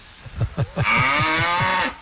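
A cow gives a single long, drawn-out moo, loud, preceded by a few short low grunting pulses. No one is talking.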